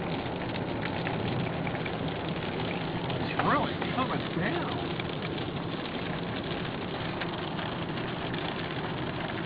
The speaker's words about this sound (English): And can I be honest, I remember, oh my gosh, the rain's amazing.